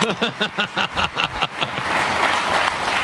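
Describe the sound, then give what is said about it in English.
A quick run of rhythmic, pitched bursts gives way to a steady wash of crowd applause for the voice of the Badgers, at the introduction of new head football coach Luke Fickell, continuing to the end with no clear talking. “How about a round of applause for the voice of the Badgers?”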